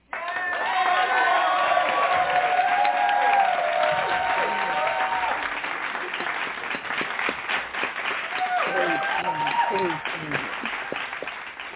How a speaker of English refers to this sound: So we are going to welcome her with a hand clap praise. Amen.